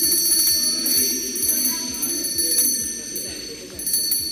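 A small handbell, the one Italian prime ministers use to mark the start of government meetings, rings continuously in rapid, shimmering strokes at Giorgia Meloni's handover ceremony in Italy, its bright metallic tones hanging in the air while a crowd murmurs and chatters underneath.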